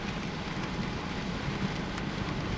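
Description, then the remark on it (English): Steady rain falls in the mountains after an intense storm, a constant, even hiss with a low rumbling undertone and occasional faint drops standing out. No voices, just the continuous wash of rainfall. “Still raining, but now I'm hitting a point in the mountains that it looks like it's like 5 o'clock in the evening, or 5 o'clock in the afternoon, you know, late afternoon.”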